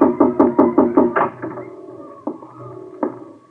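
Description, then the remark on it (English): A quick run of knocks on a wooden office door, then the door opening with a low creak and shutting with two solid clunks. “I watched the door open and close, and the flashlight play slowly around the room.”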